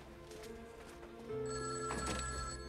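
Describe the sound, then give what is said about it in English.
A telephone bell rings in a sustained, trilling burst that grows louder partway through, with no voices over it. “He answers the phone.”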